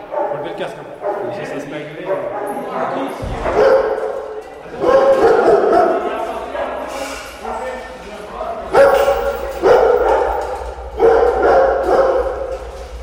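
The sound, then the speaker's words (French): A kennel full of dogs barking and yipping at once as they wait for their food, a loud, overlapping chorus that keeps going in surges and resonates strongly, with a low steady hum underneath for most of it. “déjà, ça résonne énormément, alors que vous avez tous les chiens qui aboient parce qu'ils attendent la gamelle et à l'intérieur, voilà.”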